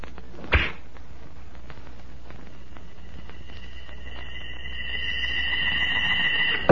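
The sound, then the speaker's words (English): A sharp snap of release as a gleaming arrow is shot from a strong bow with a rawhide string, followed by a long, thin whistling tone that grows slightly louder as it flies, ending in a sudden thud; the opening of the Straight Arrow radio show. “A gleaming arrow set against a rawhide string. A strong bow bent almost to the breaking point. And then...”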